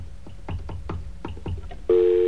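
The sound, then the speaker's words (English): A rapid run of about nine short telephone dialing tones, one after another, while placing a call from a telephone number of all zeros, then a loud, steady, low-pitched tone that holds to the end. “Okay, our call didn't go through for some reason, so let's try this again.”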